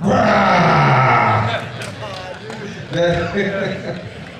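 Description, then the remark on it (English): A person growls out a long, loud imitation of a tiger roaring like a lion, followed by a few shorter, rougher vocal roars and grunts. “The tiger was roaring, but this tiger was a very, very amazing tiger. It roared like a lion.”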